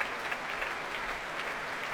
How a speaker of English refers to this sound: Great cheer from the Proms audience you heard there. And the members of the BBC National Orchestra of Wales adding their applause too.